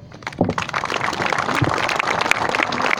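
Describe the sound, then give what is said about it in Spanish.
Applause from an audience in honor of Aldo at a housing project event: a dense, steady patter of many hands clapping, sustained and fairly loud throughout, with no talking over it. “Así que un aplauso para Aldo.”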